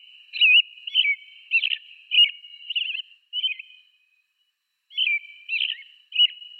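American robin song, a common North American thrush related to the Eurasian blackbird: a series of clear, warbling whistled phrases in short bursts, pausing briefly mid-way, bright and fairly high-pitched, with no talking.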